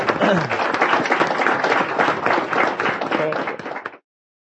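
Steady, loud audience applause: dense overlapping claps from many hands holding an even level for about four seconds, then cutting off abruptly.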